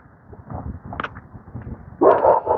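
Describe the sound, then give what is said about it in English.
A dog lets out two loud, sharp barks in quick succession near the end, following a stretch of quieter low rumbling noise. The dog barks through a small round porthole in a fence on a chilly morning in the mid-30s. “That dog can stick his nose in and bark at me.”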